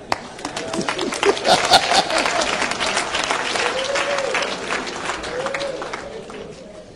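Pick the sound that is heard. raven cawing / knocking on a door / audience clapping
audience clapping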